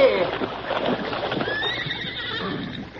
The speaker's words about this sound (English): the load was more than the struggling bay horse could budge